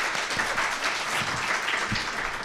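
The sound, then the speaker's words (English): Steady crowd applause, a dense wash of many hands clapping at once, holding an even, fairly loud level throughout with no voices standing out. “Applause for this wonderful human.”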